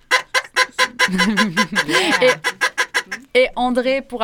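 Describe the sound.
A duck call is blown on a radio show in a rapid, loud series of nasal honks, breaking into a warbling, wavering stretch midway before a few final raspy quacks.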